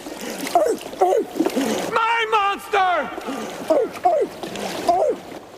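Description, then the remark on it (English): Water splashes and sloshes steadily as a man swims off, shouting and giving loud, barking-like yelps, with noisy splatter running through the whole stretch. “Gordon Shoals, the crazy man from the island, swims off, barking.”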